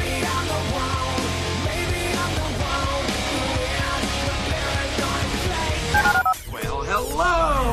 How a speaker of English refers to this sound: Dial the phone.